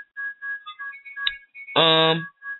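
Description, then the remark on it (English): A phone rings with a repeating electronic melody of short, high, steady tones, broken by one loud, buzzy harmonic burst partway through. “I think somebody's phone is ringing.”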